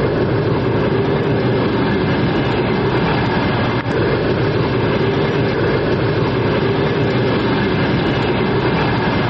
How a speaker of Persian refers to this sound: این همون قطاری است که حالا در به اسگاه تورسونزاده آمد و ما حالا در اسگاه راه آهنی تورسونزاده 60 کیلومتری شهر دوشنبه قرار داریم